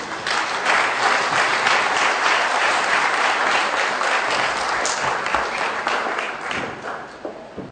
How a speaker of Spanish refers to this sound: Vamos a darle un aplauso, por favor.